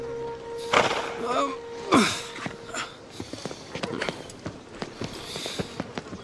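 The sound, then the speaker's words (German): Horse hooves clip-clop in a steady, uneven patter of sharp knocks, with a couple of louder vocal bursts near the start and a busy background. “Wow, wow, bleib mal stehen. Gas, geh mir mal zum Zügel. Mit Pferden habe ich's nicht.”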